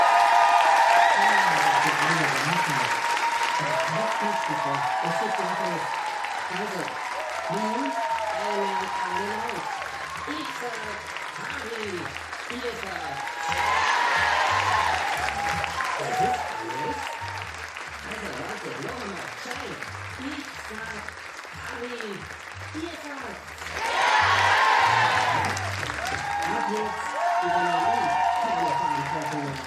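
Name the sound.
audience applause and cheering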